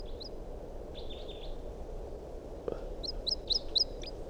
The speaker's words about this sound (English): It's recording 8:02 and there's a wild bird or two coming around. Song phrases now from a bird. It's a flight song.